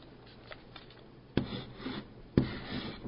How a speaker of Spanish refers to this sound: Miren, les doy ejemplo. Yo tengo un lápiz ahora para escribir.